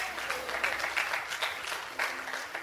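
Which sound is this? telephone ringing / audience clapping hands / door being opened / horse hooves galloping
audience clapping hands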